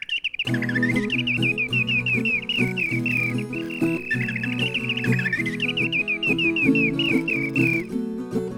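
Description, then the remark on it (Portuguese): A small bird chirps and trills in quick, continuous bursts as it flies, over a steady bed of instrumental music, lasting the whole stretch without any talking. “Voando, ele tá voando e tá cantando.”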